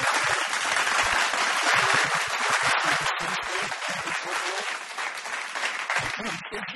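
A crowd applauds steadily for Geelong footballer Johnson, a dense wash of many hands clapping at a constant loud level that holds for the whole stretch with slight swells but no pauses.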